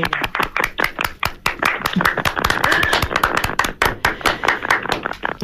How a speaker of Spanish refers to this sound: Un aplauso. A ustedes.